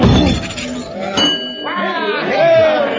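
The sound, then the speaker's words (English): A man swings a hammer and rings a strength-tester bell on his first try: a single sharp blow, its bright metallic tone lingering for a couple of seconds while voices keep talking over it. “He rang the bell on the first try.”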